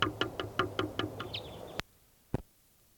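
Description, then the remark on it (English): A female bird calls in a quick, steady series of sharp, buzzy notes, then gives a brief swooping chirp. Two abrupt loud cracks follow, separated by near silence. “Bird there.”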